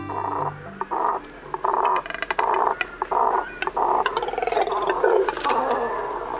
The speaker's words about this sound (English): Any guesses what we're hearing? No, not 100-pound frogs. They're birds. These deep, guttural sounds emanate from a nesting colony of double-crested cormorants, large black water birds with short legs and long necks.